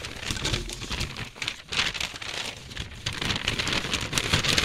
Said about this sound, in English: This is our sports radio grab bag. As the best sound effect I can do is crumple two sheets of paper in front of me.